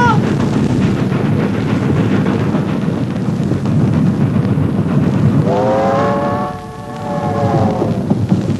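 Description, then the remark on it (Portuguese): A moving freight train rumbles past, a loud, continuous roar and clatter, with a brief high tonal squeal rising over it near the end before the rumble carries on. “Mas o trem não vai parar. Eu sei tomar trem em movimento.”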